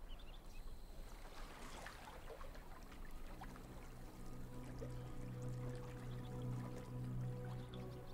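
Water pours steadily into a container for several seconds, a continuous splashing gurgle whose tone gradually rises as the vessel fills, with no one speaking.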